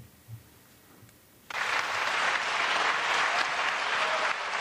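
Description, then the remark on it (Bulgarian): After a brief near-silent moment, loud, dense applause erupts in parliament from the ousted We Continue the Change, BSP and DB members for Kiril Petkov's farewell after a no-confidence vote, continuing steadily with many hands clapping at once and no voices standing out. “На хора на аплодисментите на падналите от власт промяната БСП и ДБ, Кирил Петков, като един харвардски революционер, сякаш излъчваше към цял народ”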